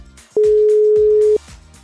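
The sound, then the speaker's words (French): A single steady telephone ringback tone sounds for about a second, loud and clear over quieter background music, the kind of ring a caller hears while waiting for an answer. “Il y a un téléphone qui sonne et il faut que ce numéro réponde.”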